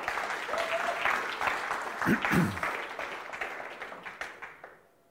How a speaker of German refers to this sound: Ich denke, das ist einen kleinen Applaus wert.